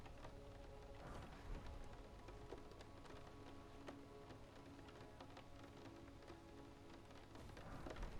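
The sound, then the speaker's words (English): Steady rain pattering on a surface at night, a dense wash of tiny droplet ticks with scattered sharper drips, continuous and even throughout, moderately quiet, with no voices. “The rain just kind of makes me sleepy.”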